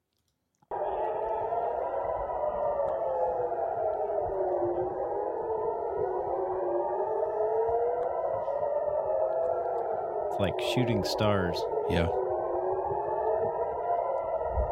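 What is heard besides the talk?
air raid sirens wailing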